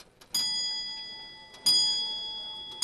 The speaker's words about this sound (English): Beautiful, isn't it? Nice, gentle sound. Close the door again. And that's that one done. The cuckoo clock.